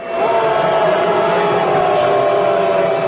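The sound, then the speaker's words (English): A large crowd of baseball fans boos the opposing player Manny Machado loudly and steadily, a sustained low droning chorus of voices that holds for the whole clip over a wash of general stadium noise. “That's a fan's YouTube video last year of booing hated opposing player Manny Machado.”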